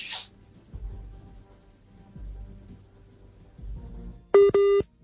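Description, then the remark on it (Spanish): A WhatsApp call tone on a call over mobile data: two loud, steady electronic beeps in quick succession near the end, after several seconds of low background rumble and a brief hiss at the start. “Esta es de esas llamadas, ese pitico es de WhatsApp.”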